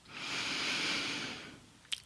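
A single slow, airy breath drawn through a slightly open mouth, soft, swelling then fading over about a second and a half, followed by a faint wet mouth click.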